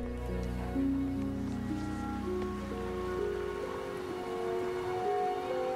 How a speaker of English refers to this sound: Rain falls from dark grey clouds on the high green hills of the Lake District.